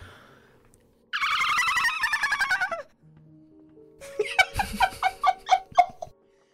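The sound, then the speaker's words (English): An eerie, dolphin-like sound: a loud, high-pitched buzzing trill lasting under two seconds, a pause, then a rapid series of squeaky, rising chirps and whistles with no talking. “It's been a while since I've heard that noise, Jenny, but that sounds suspiciously like a dolphin.”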